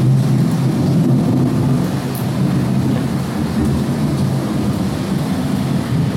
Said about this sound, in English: And the fan comes on to give you the feeling that it's just approaching, so it's a 10-minute loop. Storm comes and goes over 10 minutes. Here's the fan coming on now to blow air around to make you feel cool.